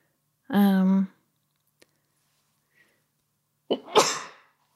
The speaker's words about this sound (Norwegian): Unnskyld. Måtte nyse.